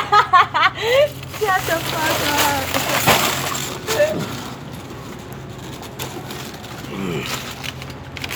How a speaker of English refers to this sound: how many bottles of water this shit is? 40. 40 bottle of fucking water, one arm.